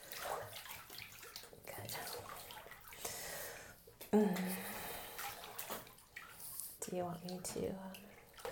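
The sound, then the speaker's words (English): Water runs steadily into a bathtub with a hissing rush, broken by a few splashes and sloshes, while soft voices murmur now and then underneath. “And I think the water temperature is it too hot or is it good?”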